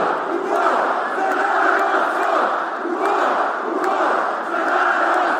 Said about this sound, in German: Ein großer Teil der rund 20.000 Zuschauer brüllen: in den Kampf für unser Volk. Ein Schlachtruf, der bei Fußballfans beliebt ist und der sich ursprünglich auf eine kroatische Schlacht gegen die Osmanen im 16. Jahrhundert bezieht.